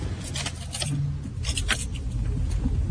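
A GPS-tracked work car's engine rumbles low and steady as the vehicle sets off, with scattered small clicks and rattles over the continuous road noise and no talking.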